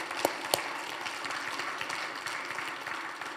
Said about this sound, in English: Can we applaud all the moms this morning? Just applaud. Thank you for all you do.